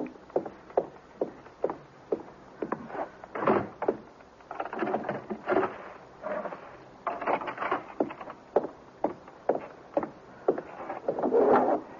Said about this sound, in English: Mother, will you please just go and close the door and put the chain on, too?